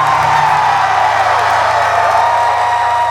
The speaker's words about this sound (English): Scream really, really loud if you can. Now, scream.